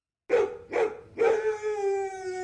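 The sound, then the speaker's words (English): A dog gives two quick, sharp barks, then lets out a longer, drawn-out howling bark that holds a steady pitch. The sounds are fairly loud, with no talking. “The Greek dogs go gav, gav.”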